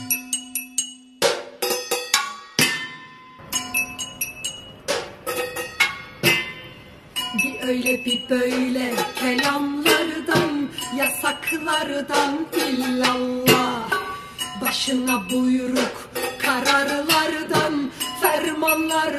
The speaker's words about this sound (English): neighborhoods throughout Istanbul have erupted with the clanking of wooden spoons against pots and pans, silverware against plates